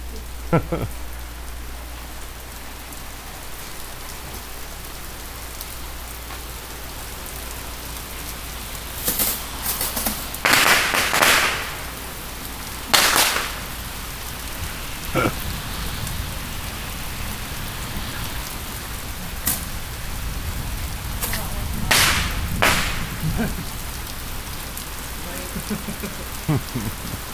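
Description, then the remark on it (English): Steady rain patters outdoors in a continuous wash of drops, with a few sharp, louder bursts and crackles cutting through at irregular intervals. “Look at the smoke in the rain.”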